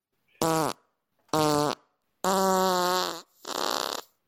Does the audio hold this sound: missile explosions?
no